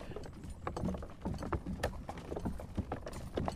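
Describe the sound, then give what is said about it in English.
A pony named Kitty snorts happily amid a steady clatter of hooves on a hard surface, with short breathy bursts over the rhythmic clip-clop, moderately loud; the pony is pulling a pony and trap for a spin out on the road. “It's a happy snort, isn't it?”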